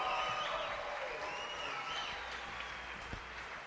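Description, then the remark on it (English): Sustained applause from a large MerleFest festival crowd for a band with a musician, a steady dense wash of clapping with scattered cheers and whistles rising over it, holding at an even level throughout. “That was great. That's a Merlefest crowd.”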